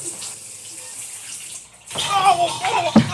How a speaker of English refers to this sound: I actually had to record the shower sound effects from my own shower on cassette and bring it in.